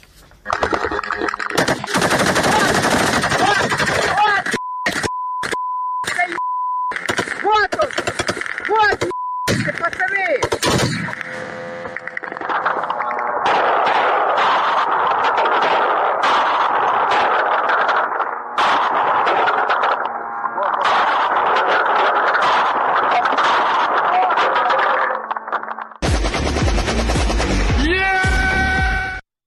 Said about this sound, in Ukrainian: мобильные группы работают зенитными пушками и пулеметами в основном